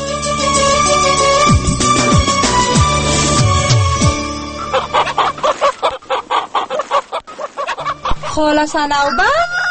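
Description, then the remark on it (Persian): A flock of chickens clucks and squawks in a chicken coop, a busy, overlapping chorus that breaks into quick, choppy bursts of clucking toward the end. “بیا در مرغانچه هستم”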